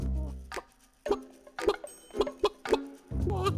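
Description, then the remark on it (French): A hen clucks in a handful of short, abrupt bursts at an uneven pace, moderately loud, with quiet pauses between the calls and no one speaking. “Je parlais de la poule, évidemment.”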